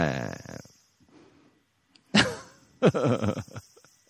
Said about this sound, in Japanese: もう聞いてる人、セミの声しかもう今入ってきてないと思いますけど、情報として。